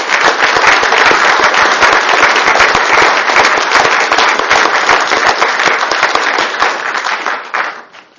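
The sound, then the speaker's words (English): Sustained applause from an audience in a county board meeting chamber, honoring departing department staff, many hands clapping densely and loudly for several seconds before tapering off near the end. “Let's give them one more round of applause.”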